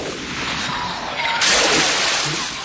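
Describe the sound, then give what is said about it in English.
A small monkey, shot from a boat, drops into river water with a single splash about halfway through, rising out of a steady wash of outdoor water noise that stays fairly loud afterward. “Sarone shoots the little monkey, who falls into the water.”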